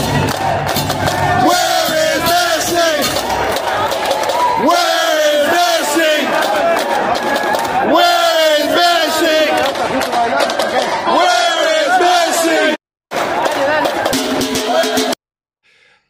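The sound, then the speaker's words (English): A huge crowd of Atlanta stadium fans chants "Where is Messi?" in unison, repeating it in loud, rhythmic waves of massed voices before the sound abruptly cuts off near the end. “The part that I didn't understand is that's Atlanta fans yelling out, "Where is Messi?"”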